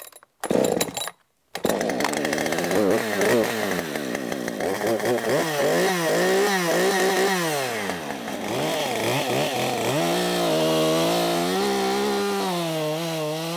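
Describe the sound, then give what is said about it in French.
A chainsaw starts with a couple of short bursts, then runs loud for several seconds, its engine pitch rising and falling as it bites into wood. “La première chose, c'est souvent, oui, je les attaque à la hache et à la tronçonneuse.”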